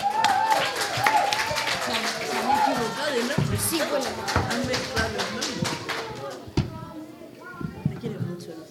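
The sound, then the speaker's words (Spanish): A group of people clapping for the sixth-grade class winners of a sound fiction contest, who present a fiction called Dragon Boy: dense and lively at first and then thinning to scattered claps, with excited voices and shouts mixed in throughout. “¡Un aplauso para ellos!”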